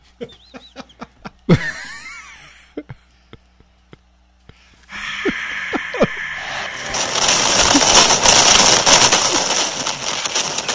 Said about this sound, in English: That's our fireworks.